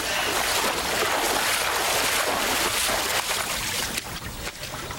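Continuous splashing and sloshing of water as a woman, thrown off the end of a dock, stumbles while wading ashore, loud and steady before thinning out slightly near the end. No voices are heard.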